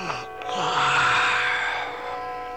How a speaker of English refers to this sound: Then the clock chime started to ring and Smart Start yawned and said, "It's time for me to go to bed. I'll investigate in the morning."